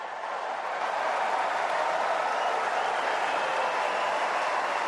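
Sustained ovation from a large crowd on Centre Court at Wimbledon as Jannik Sinner and Carlos Alcaraz come out and Alcaraz greets the spectators, a dense, steady roar of clapping that holds at a loud, even level throughout without pause.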